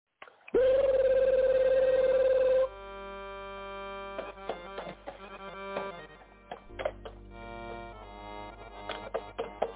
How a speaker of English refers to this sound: Man, my darn phone ringing and my damn door, somebody knocking at my door at the same time, man.